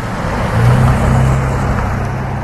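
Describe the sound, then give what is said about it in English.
A car engine revs and rises in pitch as it speeds up after clearing speed humps about 4 inches high on Waverly Drive, a steady low rumble of road traffic filling the background, with no voices. “Cars slow down for two speed humps in the asphalt of Waverly Drive”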